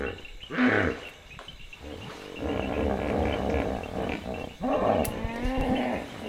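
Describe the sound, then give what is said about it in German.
Deep, loud, resonant hippo grunts and wheezing honks come in several bursts at night, by a tent on the bank of the Chongwe River in Lower Zambezi National Park, Zambia, over a steady background chorus of clinking frogs. “Die Frösche klimpern die ganze Nacht, die Flusspferde grunzen die ganze Nacht.”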